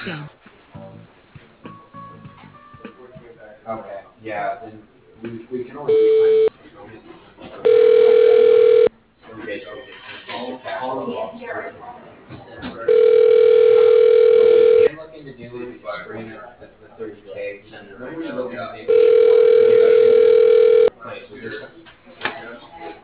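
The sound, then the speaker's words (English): A telephone rings on the line while a receptionist transfers the call to an office at Woodhouse Auto Family. The rings come in steady, mid-pitched electronic bursts: one brief, then three longer rings spaced several seconds apart, with muffled phone-quality talking filling the gaps. “Let me get you to her office.”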